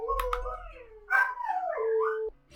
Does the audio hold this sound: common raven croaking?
no